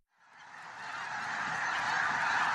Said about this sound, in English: A boy watches as a flock of geese fly across a bleak landscape.